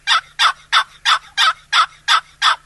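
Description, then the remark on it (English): A series of eight evenly spaced, raspy high-low yelps from a one-piece wooden box call, mimicking a basic turkey hen yelp in a steady rhythm, fairly loud with no talking. “What I like about the call, box call, too, is that it's in one piece, carry it easily in your pocket, and it makes realistic turkey sounds. A cluck, you just pull it, and the yelp. High, low. You can also turn the call over this way, and yelp.”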